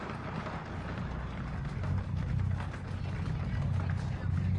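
An audience thumps the ground together as hard as they can to make the sound of an earthquake, a dense, continuous rumble of countless overlapping thuds, deep and loud, swelling slightly as it goes, with no clear talking on top.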